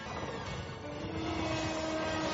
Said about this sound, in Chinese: 火车轰鸣而过